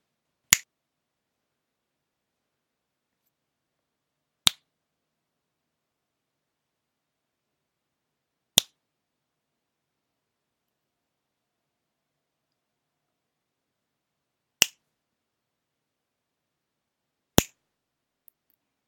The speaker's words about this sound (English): Then tell me, why does my cock twitch every time I snap my fingers?